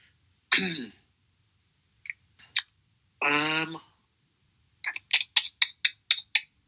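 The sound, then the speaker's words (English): A quick run of about nine sharp, evenly spaced, fairly crisp keyboard taps as a drummer types a question, coming after a couple of short throaty vocal noises and small scattered clicks. “So the drummer is now typing his question for Tim Key.”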